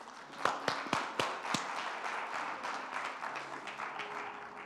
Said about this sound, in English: Clap those hands.